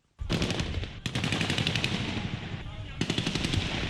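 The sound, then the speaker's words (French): Sustained bursts of rapid automatic gunfire, shots fired by RSP forces to disperse a crowd gathered near the presidential palace in Ouagadougou; a dense crackling rattle that starts abruptly and continues almost without pause, with brief gaps between loud volleys and a noisy, busy background. “Des coups de feu ont été tirés pour disperser la foule rassemblée aux abords du palais présidentiel à Ouagadougou.”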